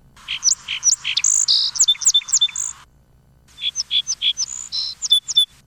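Two song sparrow songs play back to back, separated by a brief pause: a song model, a lively series of sharp notes and buzzy trills, then a poor copy of that model, similar but less precise. Clear, with no talking.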